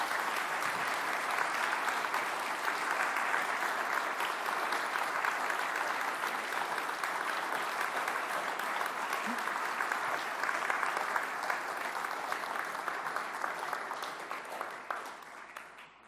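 Sustained audience applause, a dense, steady wash of many hands clapping at even loudness for about fifteen seconds before tapering off at the end, a big thank-you applause for everyone who made the music. No one speaks over it.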